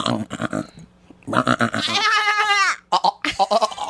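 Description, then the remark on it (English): A person imitates a goat with a loud, quavering bleat lasting under a second, sandwiched between bursts of talking and laughter. “taught me how to do the goat.”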